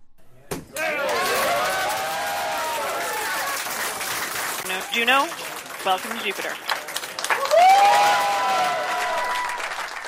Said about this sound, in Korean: 나사의 무인 우주 탐사선 주노호가 목성 궤도에 진입하자 나사의 과학자들이 환호하며 기뻐했는데요.